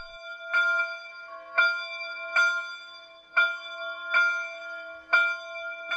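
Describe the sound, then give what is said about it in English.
Church bells in Kaslo ring out steadily at 7 p.m., after sunset, with six clear strikes about a second apart, each note ringing on and overlapping the next. No voices, just the resonant bells at moderate volume. “And then the bells begin to ring.”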